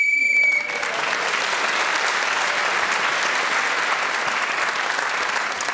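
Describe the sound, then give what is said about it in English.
On a game show, a brief, shrill whistle sounds for about half a second, then gives way to loud, steady applause from a crowd that continues evenly to the end. “… speaking as the whistle went means he gains the point.”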